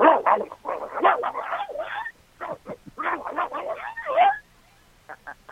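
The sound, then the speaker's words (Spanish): A human voice imitates a dog fight: a frantic, continuous tangle of snarls, growls, yelps and barks for about four seconds, trailing off into a few short yips. “Para ustedes, damas y caballeros, una pelea de perros.”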